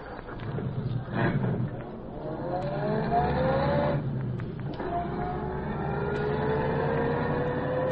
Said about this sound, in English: Car pull out from curb down the street.